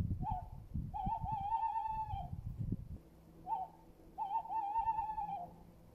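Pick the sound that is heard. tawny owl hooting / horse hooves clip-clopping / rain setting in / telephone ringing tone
tawny owl hooting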